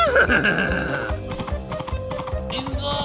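A purebred Arabian horse named Shalhoub, ridden by Juha through a gate, gallops at full speed with a steady, rapid beat of hooves, opening with a high, wavering whinny. The hoofbeats stay loud throughout.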